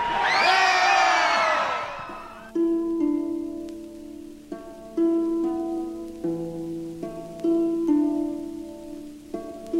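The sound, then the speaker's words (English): A crowd of about 5,000 at the 1994 Detroit Free Press WJR Christmas Sing in New Center Park, across from the Fisher Building at Grand Boulevard and 2nd in Detroit, roars and cheers loudly for a couple of seconds, then the cheering cuts off and steady, sustained musical notes play in a slow sequence. “We've got a crowd of 5,000 very hearty souls, don't we?”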